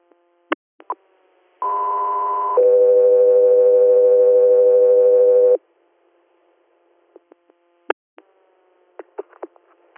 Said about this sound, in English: stand by for tones.